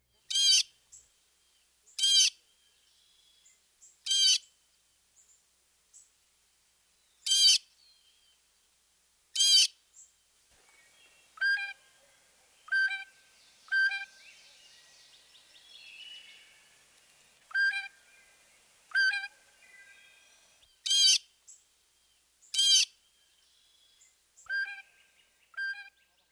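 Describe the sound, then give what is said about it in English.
A blue jay calls again and again, alternating loud, harsh jeering cries with softer, musical whistled notes, about fifteen calls at an irregular pace, clear with no talking. “Here's the blue jay again.”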